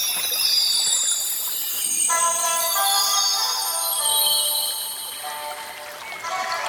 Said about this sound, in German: Eigentlich sagte er ja, folgt dem Bachlauf und nicht wartet durch den ganzen Bach. Ich habe ganz nasse Füße.